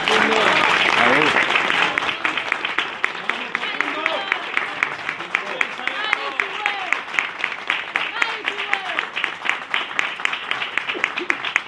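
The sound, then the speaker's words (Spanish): An audience breaks into sustained applause, dense clapping that starts loud and gradually thins out over several seconds, with cheers and shouting voices mixed in. “Un aplauso para él, por favor.”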